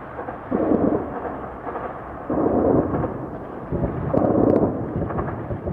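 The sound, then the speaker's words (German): A low, continuous rumble swells into three heavy booming bursts about every two seconds, explosions echoing through Kyiv after dark. No voices are heard. “Explosions breaking the silence after dark in Kyiv, and tonight it's believed the Russians are already within city limits.”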